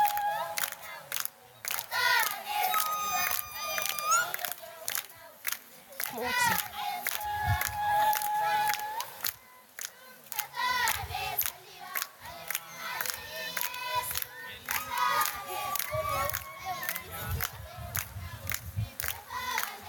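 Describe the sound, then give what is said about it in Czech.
A group of children at a mission boarding school in the evening shouts and chants loudly together, their high voices overlapping, with sharp claps punctuating the noisy, energetic commotion throughout. “Tohle je v tom intru a takhle tam vidět večer, tak abyste to měli představit.”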